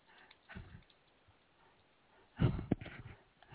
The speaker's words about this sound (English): Okay, so who's doing all that breathing?